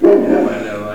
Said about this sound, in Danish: Der har vi så en lille hund herinde, men den er altså så godmodig.